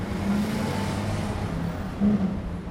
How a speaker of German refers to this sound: Unendlich viele Autos lärmen durch die Straßen von Monte Carlo. Hektik.